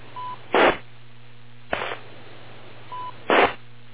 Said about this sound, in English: Okay, of course. My phone rang.